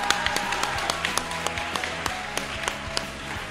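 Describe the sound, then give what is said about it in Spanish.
A crowd applauds steadily, with many overlapping hand claps forming a continuous, moderately loud patter and sharper individual claps standing out throughout, with no speech over it. “¡Un aplauso para Zaragoza, maldita sea!”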